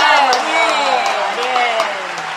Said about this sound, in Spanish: Bueno, muy bien. Increíble, aplausos.